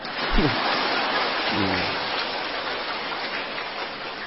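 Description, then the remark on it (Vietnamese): A crowd claps steadily in a dense, even wash of applause lasting about four seconds, with a couple of brief voiced calls rising over it near the start; another round of applause at a Buddhist temple, thanking the abbot. “Nhất quá tam một tràng nữa đi.”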